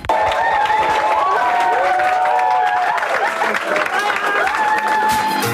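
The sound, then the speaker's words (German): Loud, continuous applause from teams gathered at the Pfadiheim Olten voting by applause for the winner of a contest, with cheering and whistles rising over the clapping, a dense wash of noise that holds steady for several seconds with excited voices mixed in. “Nacheinander sind alle Bilder und Videos von den verschiedenen Aufgaben gezeigt worden und nach Applaus ist abgestimmt worden, wer der Sieger ist.”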